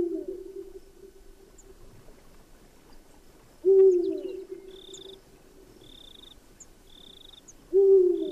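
A Eurasian eagle-owl gives deep, booming hoots at night, repeated about every four seconds, while faint short high-pitched calls sound in the quiet background.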